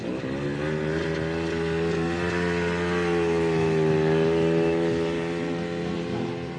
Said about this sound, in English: If the sound of whining engines doesn't attract you